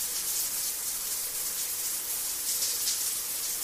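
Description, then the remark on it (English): A steady, hissing rush of shower water spraying without pause, bright and even in level throughout, with no voices or other sounds. “Simon Says, pretend you're having a shower.”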